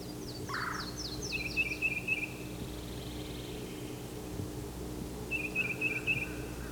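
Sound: yellow-throated warbler calling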